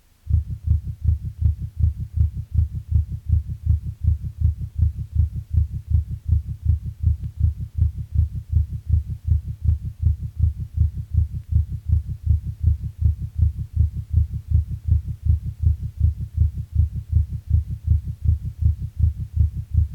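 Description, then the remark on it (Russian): Rapid heart sounds of supraventricular tachycardia, recorded from a patient with ischemic heart disease during a paroxysm, a fast, steady run of low thudding beats repeating evenly throughout, as through a stethoscope over a faint hum, with no voices. “Прослушайте запись, сделанную у больного ишемической болезнью сердца в момент пароксизма наджелудочковой тахикардии.”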